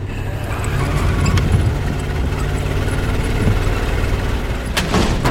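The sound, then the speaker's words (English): A car engine, started with a remote starter and revving up, runs with a steady, loud low rumble, holding an even level throughout, with a brief sharp crackling burst near the end. No one speaks. “Remote starter! Revving up!”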